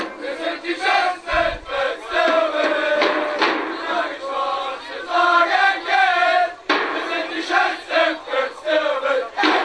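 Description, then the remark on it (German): A large crowd roars and cheers continuously, with rising and falling waves of shouting and chanting voices, loud and dense throughout, like sports fans in a packed stadium. “Jubelnde Fans, die kein Spiel ihrer Mannschaft verpassen und Stadien, die bis zum letzten Platz gefüllt sind, zeigen, dass Sport mehr ist als nur ein Wettkampf.”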